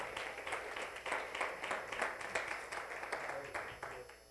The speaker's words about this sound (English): Give him a hand clap of praise as you're being seated.